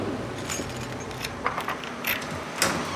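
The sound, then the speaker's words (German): Keys jingle and a lock clicks and clacks several times in quick succession, followed by a door being opened, all fairly quiet with no talking. “Ja, machen Sie die Tür auf.”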